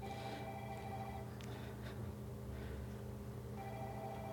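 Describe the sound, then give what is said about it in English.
A mobile phone belonging to someone in the audience rings during a presentation on a land use plan, a steady electronic tone, moderately loud, its repeating melody continuing for several seconds with no one speaking. “Somebody's got a phone. Let's please put that on silent.”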